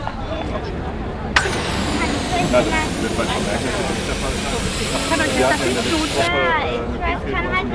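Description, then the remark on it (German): A balloon pump, with children queuing at it on the Bonn market square, lets out a steady, loud hiss that starts abruptly, runs for about five seconds, then cuts off, over a continuous murmur of crowd chatter. “Während die Kinder an der Luftballonpumpe anstehen, versuchen die Erwachsenen, einen der begehrten Sitzplätze zu bekommen.”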